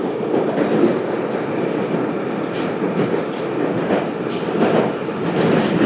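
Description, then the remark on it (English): A London Underground District Line tube train heading toward Upminster rumbles along at a steady, loud roar, with low-pitched churning noise and faint rhythmic clatter from the wheels throughout, and no voices. “So I'm now on my second tube. This is the District Line, going all the way to Upminster.”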